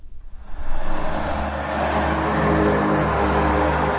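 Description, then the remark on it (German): Steady, fairly loud commuter road traffic in the suburbs of Prague, Czech Republic, rumbles, cars driving past in a continuous wash of engine and tyre noise that swells in the first second and then holds. “So sorgen im Speckgürtel von Prag immer mehr Pendler für immer mehr Staus.”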